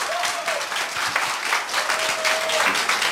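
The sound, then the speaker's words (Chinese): An audience at a talk applauds steadily at the speaker's request, a dense, even patter of clapping that fills the whole moment, with a faint whistle or tone briefly rising above it. “要不要给陈老师这个逃避开除的方法掌声鼓励一下？”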